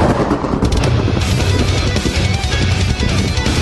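A loud, dense lightning round intro jingle for a show's quiz segment, noisy and driving, with rapid percussive bursts like rattling gunfire over a heavy low rumble, steady in volume for a few seconds with no talking.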